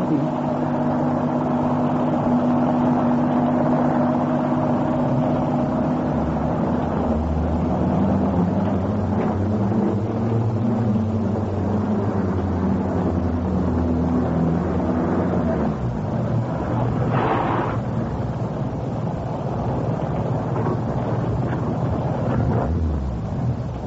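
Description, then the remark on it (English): A car engine rumbles steadily under a constant hiss of rain as the car arrives at Muggeridge Farm. The engine's pitch shifts partway through, as if it is easing down or idling. No one speaks. “Somebody's heard the car.”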